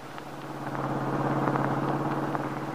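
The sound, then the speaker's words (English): A car driven by Max, taking Paul Cromwell to an appointment with his attorney, moves along with a steady, low engine drone and a constant rumble, joined by a few faint ticks and rattles. No one speaks. “Now, in another car, Max is driving Paul Cromwell to an appointment with his attorney.”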